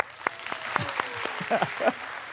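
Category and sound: crowd, clapping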